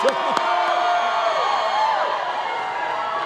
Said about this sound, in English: Walz took the stage to cheers and a familiar tune